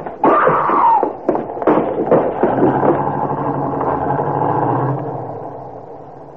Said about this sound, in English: The taxi turned and drove off toward the highway.